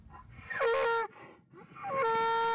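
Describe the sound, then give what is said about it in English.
A voice imitates the deep, haunting moo of a bull twice: two loud, drawn-out bellowing calls, the first sliding downward in pitch, the second held steady and cut off abruptly. “So, it's kind of like this deep, haunting moo.”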